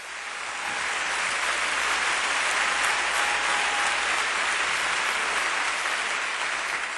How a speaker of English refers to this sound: And if that's your testimony tonight, I want you to give him a hand clap offering.